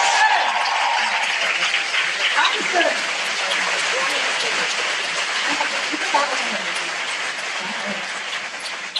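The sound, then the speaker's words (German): Sustained audience applause at a live stage event, thanking participants for their courage: a dense, steady wash of clapping at a loud level throughout, with a few voices faintly audible underneath. “Danke für euren Mut, das war der Applaus.”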